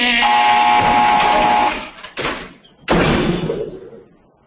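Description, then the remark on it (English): A heavy steel door onto a tier grinds open electrically with a steady mechanical whir and hum, then clanks loudly twice as it stops, the second bang ringing out and fading in a hollow space. No one speaks. “Coming onto the tier, it's a heavy steel door, and it opens electrically. Which means you hear.”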